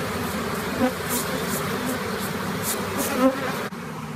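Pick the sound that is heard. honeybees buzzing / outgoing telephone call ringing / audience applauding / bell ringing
honeybees buzzing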